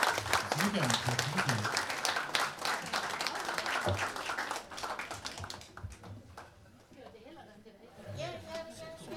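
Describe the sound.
A crowd applauds a musical performance with dense, rapid clapping mixed with cheers and excited voices, loud at first and gradually thinning out as the clapping fades and chatter remains.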